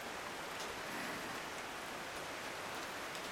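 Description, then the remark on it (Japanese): Steady rain falls continuously, a dense, even hiss with faint scattered drop patters, moderately loud, with no voices present. “この雨が止む頃には私は”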